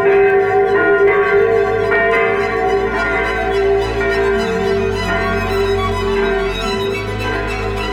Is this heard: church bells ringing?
yes